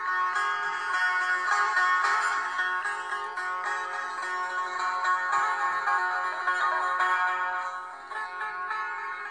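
Solo setar playing a steady stream of bright, ringing plucked notes with rich overtones, the melody flowing continuously at a fairly even loudness with no voices.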